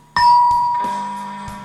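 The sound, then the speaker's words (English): A bright chime rings out alone: a few quick struck tones layered into a shimmering ding-dong that sustains and slowly fades, with no voices. It is the page-turn signal of a Flash Gordon read-along storybook. “when you hear this chime, turn the page”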